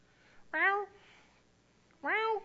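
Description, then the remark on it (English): Two drawn-out meows, about a second and a half apart, fairly loud, most likely a person's voice imitating a cat demanding to be fed rather than a real cat. “Meow. Meow. Meow. Just in my face, in my ear, you know, whatever o'clock in the morning, there they are.”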